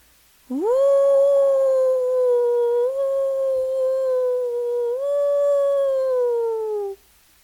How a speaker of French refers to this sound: Il retourne près de la rivière en hurlant à la lune. Il la supplie de bien vouloir l'aider.